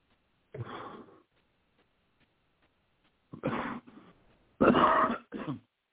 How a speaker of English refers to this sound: As I said, forgive me for my coughing, and the smoke is just horrible.